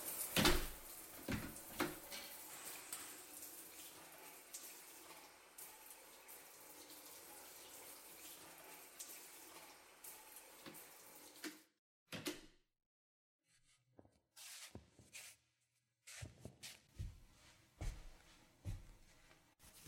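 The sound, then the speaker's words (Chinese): Water runs steadily from a tap during bathing for about ten seconds after a brief knock, then shuts off, leaving scattered splashes and light clatters. No one speaks. “我先关门啦，等我洗完出来再说吧。”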